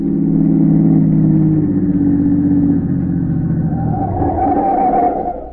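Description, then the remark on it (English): A car engine runs steadily with a low, throaty drone, then revs up toward the end, its pitch climbing as the motor accelerates. No voices are heard. “he just managed to keep the smuggler's car in sight.”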